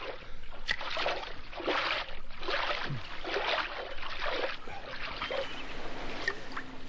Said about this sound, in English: What or whom have we here? A ship approaching. It's a boat. How many men do you count on her? Let's see. One, two... eight men.